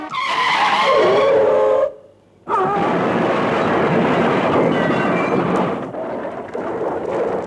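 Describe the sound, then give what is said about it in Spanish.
A car taking a curve too fast loses control, its tires screeching as it skids on the wet road, then after a brief gap a loud sustained rumbling crash of tumbling impacts and scraping as it goes down a ravine, dense, fading slightly toward the end. “Ahora no puedo dominar el auto. Resbala por el suelo mojado. Nos vamos al barranco.”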